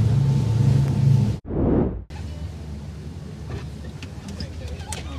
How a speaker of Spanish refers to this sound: Ahora ya vamos hacia las Islas Ballestas. Ha sido una idea genial traer una sudadera, porque aquí, claro, como vamos un poquito rápido en la lancha, el agua va entrando y estamos empapados.